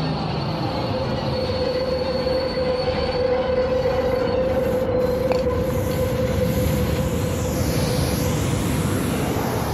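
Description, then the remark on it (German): A train rumbles steadily along the rails, loud for the whole stretch, with a sustained metallic whine and a faint high wheel squeal over the dense mechanical roar. “Dort können Sie richtig tolle Züge sehen. Da macht es auch Spaß mitzufahren.”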